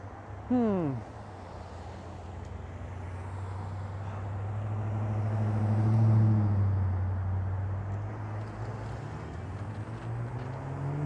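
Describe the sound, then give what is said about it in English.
Cars roll by with a steady low road rumble that swells to a peak midway and then eases off. A brief falling tonal whine cuts in right at the start. “Although, I don't know, maybe just the sound of cars rolling by is like beautiful, soothing noise.”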